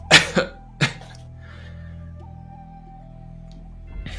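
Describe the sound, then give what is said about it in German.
A quick burst of coughing: two sharp coughs followed by a third, then a stretch of quiet background hum with a faint tonal drone. No one speaks. “Ihr habt der Husten, die Beulen.”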